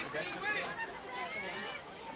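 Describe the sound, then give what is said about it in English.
Steady crowd chatter at a baseball game, a dense wash of many overlapping voices from the ballpark crowd with no single speaker standing out, holding at a fairly even level for a couple of seconds. “As with this crowd behind me.”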